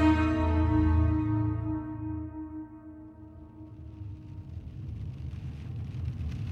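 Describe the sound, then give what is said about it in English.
A sustained musical chord fades out over the first few seconds, giving way to a steady, muffled patter of rain heard from inside a car on a rainy day in Scranton, Pennsylvania, in late June 1982, continuing evenly to the end. “You're in your car on the way to a meeting on a rainy day in Scranton, Pennsylvania.”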